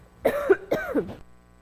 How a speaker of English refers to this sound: And today, excuse me, I don't have, I'm going to cough.